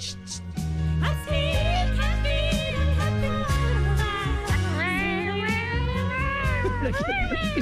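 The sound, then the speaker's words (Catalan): A squeezed toy belonging to a small dog gives off a steady stream of high, wavering meow-like cries, loud, layered over a busy electronic backing for several seconds. “Mira, quan arriba aquest do, tu saps, jo tinc una joguina de la goseta del meu germà.”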